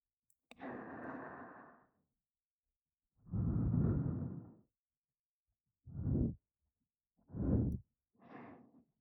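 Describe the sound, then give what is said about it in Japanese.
Five soft, warm, airy breaths blown right against the microphone, the first two long and drawn out, then three shorter puffs, with quiet pauses between them and no talking. “ささやくし、暖かい吐息も吹きかける。”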